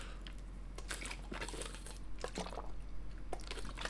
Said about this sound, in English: But before continue, I want to drink a little bit more of water.